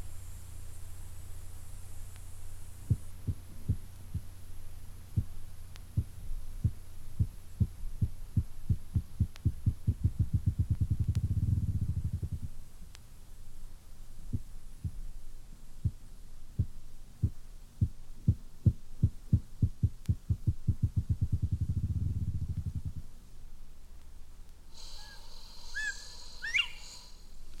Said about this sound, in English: The next group of 13 birds are best known as game birds, and the favorite in the woods of northern United States and Canada is the rough grouse, which mounts to a drumming log and produces spring thunder with its wings.